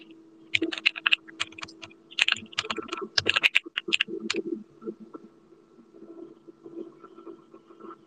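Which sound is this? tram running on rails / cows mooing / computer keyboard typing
computer keyboard typing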